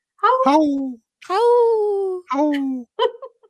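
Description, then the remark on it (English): A young child's voice imitates a wolf howl: a short wavering call, then a longer drawn-out howl, followed by two briefer attempts trailing off. “I heard one of them howl a little bit, right?”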